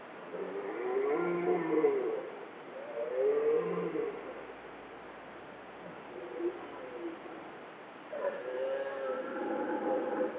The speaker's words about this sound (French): Bram du Cerf et Chevêchette d'Europe sont au rendez-vous.